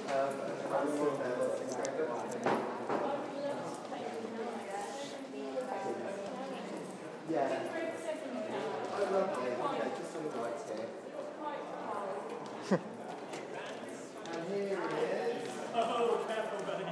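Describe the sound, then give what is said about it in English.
A dog arrives with light, rhythmic tapping of paws and the occasional clink of a harness, partly buried under steady background voices. “Have we got a dog?”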